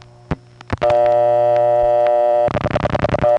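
A telephone receiver clicks off the hook, then a steady humming dial tone sounds, broken by a quick burst of about eight rhythmic pulse-dialing clicks as the digit 8, the first digit of an 872 prefix, is dialed. No voices.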